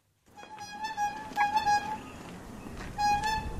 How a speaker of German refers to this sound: Ein Glasseverkäufer stößt seinen Karren hupend durch das Quartier.